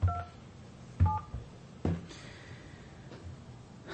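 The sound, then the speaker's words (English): Several touch-tone keypad beeps sound one at a time with uneven pauses between them as a phone number is dialed on a telephone. The tones are short and clear, with no talking. “I got calluses on my finger from dialing this phone so much.”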